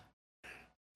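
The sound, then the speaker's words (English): A quick series of sneezes: short, breathy bursts separated by brief silences, with no talking in between. “Bless you.”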